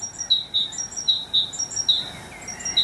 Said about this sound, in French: C'est la mésange charbonnière.